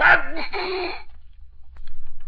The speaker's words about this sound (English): Who sneezed? I did. I got a cold.